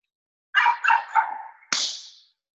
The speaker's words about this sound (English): I'm confused as who has the dogs barking in the back.